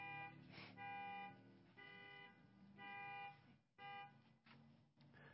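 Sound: car horn honking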